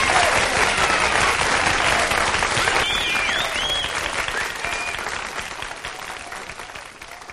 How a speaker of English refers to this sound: I really wanted to keep that applause in there as long as I could, because that's just how good that record is.